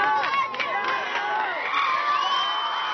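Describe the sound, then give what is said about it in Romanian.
A large crowd in Mumbai cheers and shouts in sustained excitement at the news of Slumdog Millionaire winning the Oscar for best film, many voices whooping together at steady loudness for the whole stretch, with no single voice standing out. “În orașul milionarului, Mumbai, știrea a fost primită cu ovații.”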